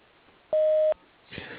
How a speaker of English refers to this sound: At the tone, kindly leave your name and phone number, and we will return your call as soon as possible.